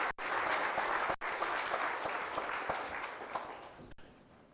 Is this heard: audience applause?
yes